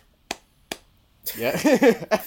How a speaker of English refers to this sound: Yeah. I'm not sure if that clap was applause or some other type that of was clap. That was applause right there, baby.